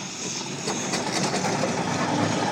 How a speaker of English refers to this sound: That's that roller moving. That's what I want them to do. And actually, he's coming in reverse.